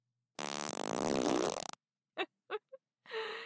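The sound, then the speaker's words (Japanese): A long, loud, sputtering fart drags on for over a second, followed after a pause by a few short, sharp bursts, with no voices present. “聞くでしょ、こんなに長いおなら。”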